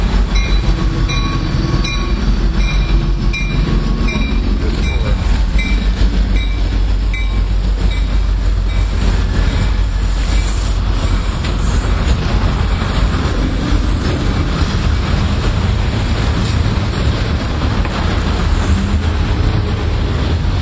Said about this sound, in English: let's see if we can catch this train.